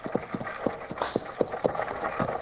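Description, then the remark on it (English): Horses' hooves clip-clop in a brisk, steady rhythm as they pull an approaching stagecoach over a low rolling rumble, moderately loud, with no voices. “Don't rush the stage while I stop the horses.”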